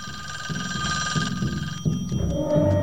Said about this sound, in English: He sees it's a few minutes after 3:00, then reaches for the phone and dials a number. It starts ringing in the kitchen,